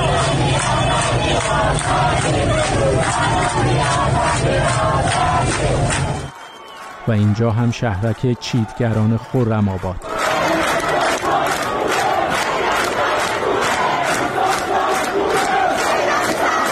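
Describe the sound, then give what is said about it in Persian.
A loud crowd of street protesters in Borujerd, Lorestan province, Iran, chants in steady rhythmic bursts, breaks briefly while a single voice speaks, then the massed chanting resumes and carries on to the end. “همزمان با این مراسم در برخی از شهرهای استان لرستان هم معترضان به خیابان‌ها آمده بودند.”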